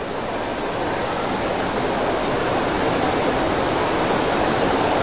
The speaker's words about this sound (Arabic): ما شاء الله، سبحان الله، هذا المطر ما عهدناه من زمان.